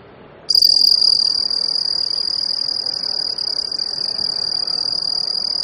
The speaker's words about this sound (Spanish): Son grillos. Efectivamente, es un grillo.